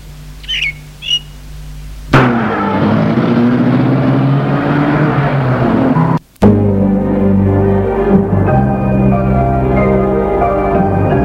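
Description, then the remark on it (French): A few bird chirps in near silence, then a car engine suddenly roars to life and revs up steadily, cutting out for an instant before rumbling on loudly, as a man gets back into his car, its right wing slightly damaged, and drives off. “Il remonte en voiture et part.”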